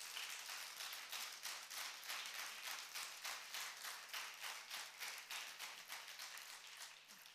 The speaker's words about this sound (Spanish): ¿Cuántos le dan gracias a Dios por Argentina? Denle un aplauso al cielo.